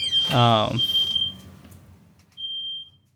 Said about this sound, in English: What is that? What are you cooking? I forgot about it. All right, we got a fire alarm going off over here. Something was on the stove,